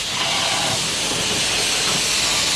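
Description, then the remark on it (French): A steam locomotive vents steam in a loud, steady hiss that roars without pause for the whole stretch, with no voices, on the Dunn River heritage railway line near Devonport, Tasmania. “Mais vérifions d'abord que notre train est prêt à cracher toute sa vapeur.”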